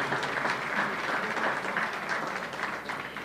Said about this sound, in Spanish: Muchas gracias por su aplauso tan cálido, tan bello.